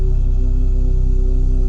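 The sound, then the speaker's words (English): A steady, loud electronic drone of two sustained tones, the first and second chakra frequencies, one an octave above the other, sounding together without change or pause for the short duration. “Both chakras at the same time humming.”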